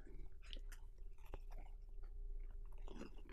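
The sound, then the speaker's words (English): Chewing a warm, buttery chocolate chip cookie, with soft crunchy, moist mouth sounds and small clicks, steady and continuous over a low background hum, with no talking. “Some people don't like the sound of chewing.”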